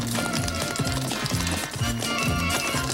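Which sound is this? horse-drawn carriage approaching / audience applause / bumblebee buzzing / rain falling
horse-drawn carriage approaching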